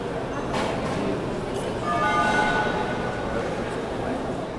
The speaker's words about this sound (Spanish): Las terminales aéreas son una puerta de entrada sonora a cada cultura. En ellas se escuchan sonidos universales, globalizados, pero también empieza a sentirse el sonido local de cada país.